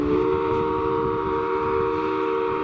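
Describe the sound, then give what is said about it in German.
The steam whistle of the paddle steamer Montreux, built in 1904, blows as it departs out onto a lake: one long, unbroken blast, a loud steady chord of low and mid tones that holds without wavering for the whole stretch, with no voices over it. “Und während wir hier ablegen und auf den See hinausfahren, vielleicht noch ein paar Worte zur Lage und auch zur Form dieses Sees.”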